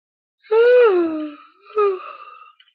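exaggerated yawn

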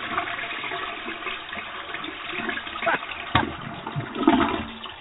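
toilet flushing

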